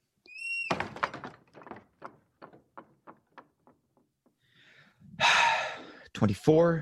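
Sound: door being closed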